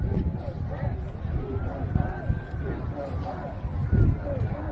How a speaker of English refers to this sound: So the crowd's starting to come, as you can tell. You hear them in the background, right? Not a lot of audio to this, except for it's a recording and a video. I play it because you can hear the crowd off in the distance.